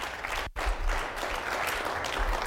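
An audience claps together in a dense, steady wash of applause that dips for a split second early on, then holds at full strength to the end. No voices are heard.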